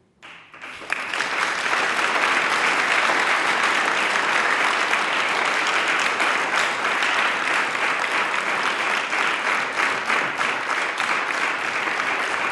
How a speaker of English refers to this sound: So what's going on? They're clapping me. How do I feel? Great.